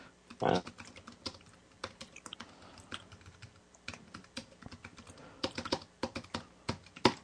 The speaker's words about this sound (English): Excuse me, I'm typing to you.